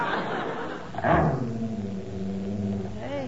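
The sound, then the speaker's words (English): A dog growls in a low, drawn-out rumble that wavers in pitch, starting with a rough snarling burst and trailing off into a sustained, rising-and-falling growl, clear. “Hey, listen to that dog growling.”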